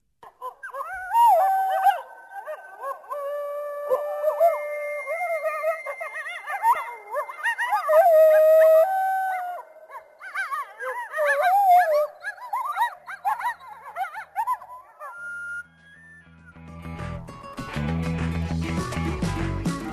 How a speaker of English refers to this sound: Well, heading into a break, Dan, then let's listen to a group of coyotes howling.